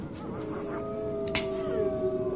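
A large pack of hungry wolves howl together in long, drawn-out wavering tones that overlap and slowly bend in pitch, in snowy weather as night falls, with a brief sharp noise partway through and no talking.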